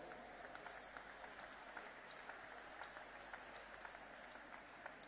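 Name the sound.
audience clapping hands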